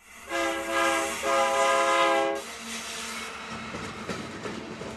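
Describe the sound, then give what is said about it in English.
A freight train blares its horn in two long, loud blasts, then the heavy rumble and clatter of rail cars rolling along the tracks carries on. “A freight train the migrants traveled on stopped near their home.”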